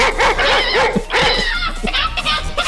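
A dog barks close by in a rapid run of high, yelping barks, followed by more drawn-out, whiny barking that keeps going loudly to the end.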